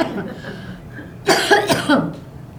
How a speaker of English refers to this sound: Excuse me, I am having a coughing attack.